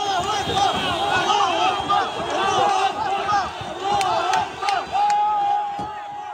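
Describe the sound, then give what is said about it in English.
A dense crowd surrounding Red Cross vehicles, with Hamas militants standing on top, shouts and chants continuously as three women hostages are handed over to Israeli forces; many overlapping voices at a steady loud level, with a few sharp knocks and bangs cutting through the din. “Video shows the chaotic moment when Hamas militants, who were standing on top of Red Cross vehicles surrounded by crowds, handed the three women over to Israeli forces.”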